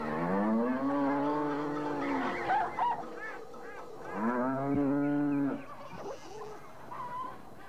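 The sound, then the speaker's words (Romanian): Two long, deep moos from cattle dominate, harmonic and drawn out, with honking geese and other farmyard fowl calling around them and briefly in between, as an old man's farmyard fills with birds and herds of cattle. “Și îndată se umple ograda moșului pe lângă păsări și deșirez de vite.”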